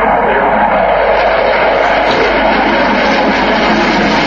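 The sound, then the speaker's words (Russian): A loud, steady roar of jet engines fills the whole stretch, broad and rushing without pause, with no voices: Su-27 heavy frontline fighters of the Russian Air Force Lipetsk Combat Training Center aerobatic team flying aerobatic figures, solo and in tight formation, opening an air show. “Открыла выставку пилотажная группа Липецкого центра боевой подготовки ВВС России на тяжелых фронтовых истребителях Су-27.”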